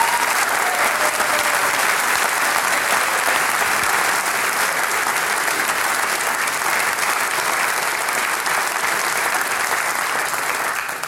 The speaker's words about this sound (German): im Herzen der Steiermark, in Vonsdorf, im Arbeiterheim sind wir. Herzlich willkommen, schön, dass ihr mit dabei seid, liebe Gäste, da herinnen im Saal und daheim an den Radiogeräten. Einmal einen kräftigen Applaus vom Arbeiterheim in die weite Welt.